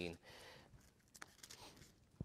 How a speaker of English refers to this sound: In this passage, I hear a few passages, people still turning pages, so we'll give a second here.